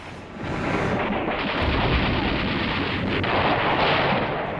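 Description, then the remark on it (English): A continuous, thunderous roar of artillery guns opening the Battle of El Alamein in the desert at 9 p.m. on the night of 23 October 1942, heavy booms blending into a dense, rumbling barrage that stays loud throughout, with no voices. “The night sky becomes ablaze with explosions.”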